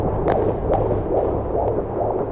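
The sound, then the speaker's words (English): A fetal heartbeat on an ultrasound doppler, a fast steady whooshing pulse of about two beats per second over a low muffled hum, fairly loud, with no voices. “They just flipped a switch and there was the heartbeat.”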